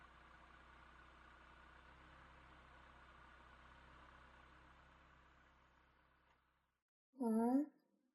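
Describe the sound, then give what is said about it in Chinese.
A car engine idles in a traffic jam, a steady low rumble for several seconds, then fades out, followed by a brief silence and a short burst of a voice. “啊，怎么堵车了？”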